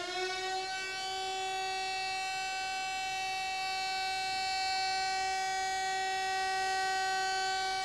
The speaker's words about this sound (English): The signal that marked the beginning and end of the workday was the sounding of a bell, or more often than not, a siren.